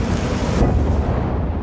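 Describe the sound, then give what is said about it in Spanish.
A car explosion erupts into a deep, roaring fireball, a loud, sustained low rumble with a broad crackling hiss that swells briefly and keeps churning without any voices. “Una bola de foc engoleja el cotxe.”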